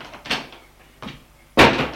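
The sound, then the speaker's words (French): Three doors slam in quick succession upstairs in a house, each a sharp, heavy bang with a short rumbling tail; the second is softer and the last is the loudest. No voices are heard. “On entend des portes claquer.”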